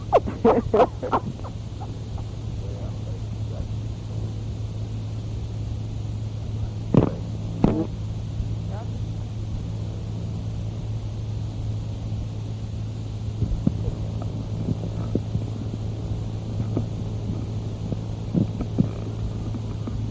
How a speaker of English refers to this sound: The fire engine has stopped close to here. Oh. No, it went on down the street.